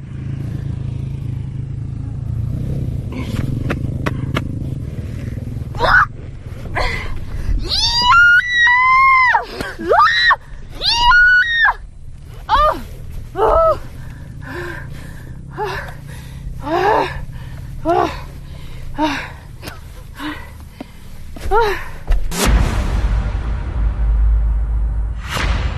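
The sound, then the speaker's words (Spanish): A woman alone on a sand dune lets out a series of loud, strained screams and grunts of effort while lifting her half-buried motorcycle, over a steady low rumble, ending with a sudden clattering burst. “Y entonces, claro, ha tenido que levantarla. Pero le ha costado tanto que fíjense el esfuerzo tan descomunal que ha tenido que hacer.”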